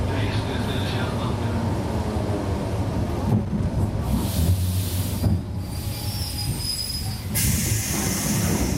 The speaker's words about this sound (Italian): Non resta che raggiungere un mercatino fuori città, 45 minuti di treno regionale per arrivare a Novostodnenskoye.